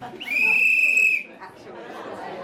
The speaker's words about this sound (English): So there'll be a whistle to start, a whistle at the end of 5 minutes, and we will finish in an hour's time.